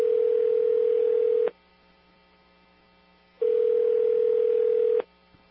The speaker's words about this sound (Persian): گوشی تلفن رو محکم گرفته بود. بعد از چنبوغ آزاد صدای گفت دبیرستان میدل بود بفرمایید